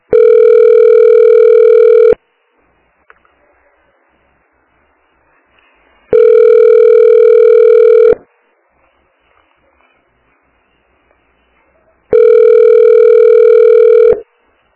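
A telephone ringing tone heard down the line while waiting on hold after calling the Unidade de Saúde (health unit) in Santa Catarina: three loud, steady two-second beeps spaced evenly about four seconds apart, with near silence between them and no one speaking.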